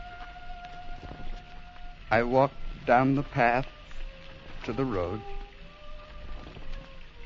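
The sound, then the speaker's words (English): Heavy rain hisses steadily over Dark Mayo in the background, a constant wash of noise beneath a voice speaking in short phrases. “Dark Mayo was suffering under the heavy rain.”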